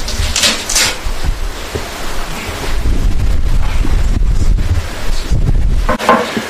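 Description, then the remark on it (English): Strong wind roars and buffets steadily throughout on an incredibly windy day at Stavanger Church, a loud, continuous rumbling gust with brief swells of hissing, with no one speaking. “Good morning, Stavanger Church, on this beautiful and incredibly windy day.”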